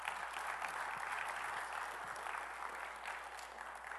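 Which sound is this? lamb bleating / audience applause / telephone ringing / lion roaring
audience applause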